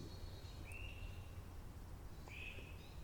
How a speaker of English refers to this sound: I'm recording right now from my secret spot in First Landing State Park. It is a beautiful April morning. There's lots of bird noise. Hopefully we pick up some of it close to the mic.